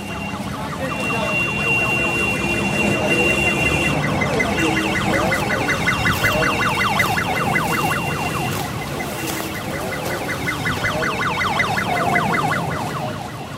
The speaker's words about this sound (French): Voilà les ambulances qui sont là, à moitié vides, mais t'as vu ça aussi, c'est encore des ambulances du tiers-monde quoi. Ouais, c'est une pauvre camionnette avec un lit de camp à l'intérieur.